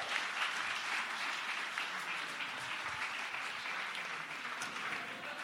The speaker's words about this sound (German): Wenn das mal kein Applaus wert ist.